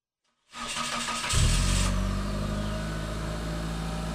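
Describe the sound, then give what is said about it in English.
A car engine cranks and catches as the car is turned on, revs up briefly, then settles into a steady low idle. It is fairly loud, with no voices. “That's the sound most of us hear when we turn on our cars.”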